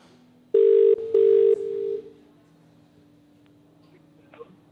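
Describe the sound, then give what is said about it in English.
An outgoing phone call, made live to a competition winner, rings on the line: two quick buzzing ring tones in a double-ring pattern, fairly loud, then a fading tail before a quiet hum of line noise. “All right, we're calling up live now. The winner. If your phone goes, it's us.”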